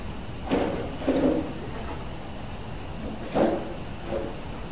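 A door being closed, heard as two pairs of short scraping knocks against a steady background hiss, with no one talking.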